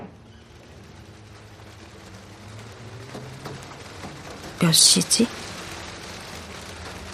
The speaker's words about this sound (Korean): 하늘에는 여전히 먹구름이 잔뜩 껴있었다. 얼마 안가 빗방울이 창문에 부딪히기 시작했다.